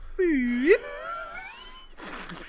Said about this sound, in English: Is that a happy fart? It sounds like a slide whistle. It's a cartoon fart.